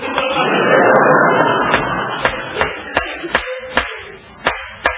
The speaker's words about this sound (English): Stop hammering those bits of wood in my potato patch.